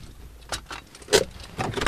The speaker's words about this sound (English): We get out of the car parked on the side of a field.